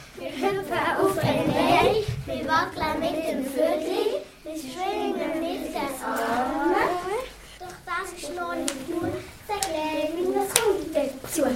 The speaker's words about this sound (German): Wir klatschen, wir stampfen mit den Füßen, wir kommen in die Luft, wir hüpfen auf den Bein